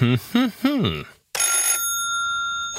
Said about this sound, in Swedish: Ringsignalen kommer